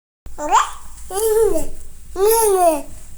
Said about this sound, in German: Hört hier irgendwer zu, der oder die Baby spricht? Nicht? Na dann, werden wir das wahrscheinlich nie erfahren.